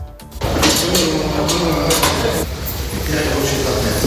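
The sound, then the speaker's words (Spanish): Workers haul the heavy stove to be used in the conclave up a staircase at the Vatican: repeated bumps, clunks and scraping thuds at an uneven rhythm, with indistinct voices murmuring underneath throughout. “Es el sonido de los operarios que suben la estufa que se va a utilizar en el cónclave.”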